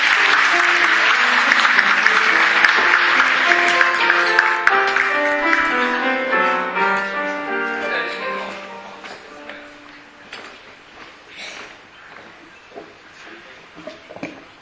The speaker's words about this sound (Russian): Сега каня гостите от град Шатура за приветствие. Аплодисменти за тях.